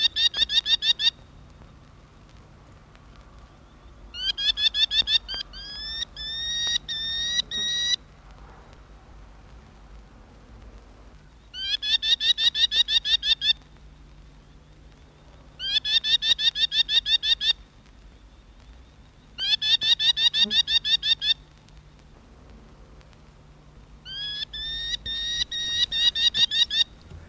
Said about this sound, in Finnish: ääntelijä on ampuhaukka.